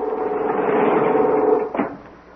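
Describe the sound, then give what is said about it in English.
A door opens with a steady mechanical whirring rumble that runs for about a second and a half, ending in a single solid clunk; no voices. “Now, shall I open or not?”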